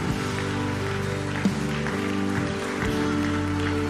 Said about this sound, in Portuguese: Se você assim crer, aplauda ao Senhor, porque Ele é digno de toda honra e toda glória.